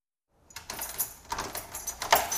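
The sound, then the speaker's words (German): Keys jangle in a bright, metallic clatter for about two seconds while an apartment door is quietly handled and closed. The sound is moderately loud, with no talking. “Mach die Türe leise zu.”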